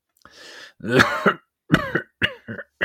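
A man coughs harshly and close up: a raspy intake of breath, a heavy hacking cough, then a string of shorter strained coughs that sound labored and painful.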